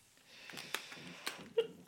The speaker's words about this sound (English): Oh, do you hiccup?